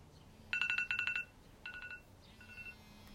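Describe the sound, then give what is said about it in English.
A timer goes off with rapid, high-pitched electronic beeps in three bursts, a long loud one, a shorter one, then a fainter final run, over a low background hum. “And then there was the nasty timer, just when you were beginning to enjoy yourself.”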